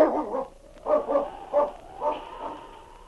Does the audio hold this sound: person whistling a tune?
no